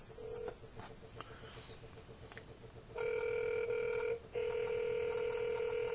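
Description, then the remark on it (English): A brief beep and faint dialing clicks of a telephone call, then a loud, steady telephone ring tone sounds in two long bursts separated by a short pause, clear with no one talking. “Phone call still rolling.”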